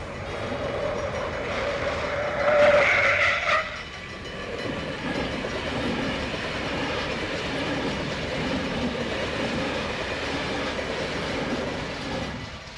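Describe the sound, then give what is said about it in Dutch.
A train rumbles past at a railway crossing, with a brief high squeal of a car braking near the start followed by a steady rolling clatter that continues to the end. “Mike, daar is de spoorweg.”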